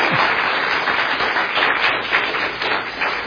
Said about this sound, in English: Big round of applause.